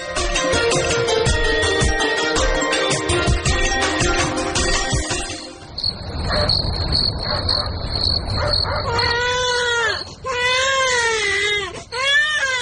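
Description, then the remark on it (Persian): A sick infant wails in several strained, rising-and-falling cries near the end, following a stretch of busy music and a steady high-pitched insect-like chirring. The crying is fairly loud. “او مردکن، چند روز میشه که بچه مریض است، سبا پیش دکتر ببرش.”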